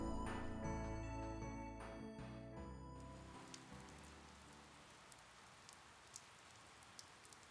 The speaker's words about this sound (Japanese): 今日の撮影は中止か。 ああ、雨の音をマイクが拾っちゃうからな。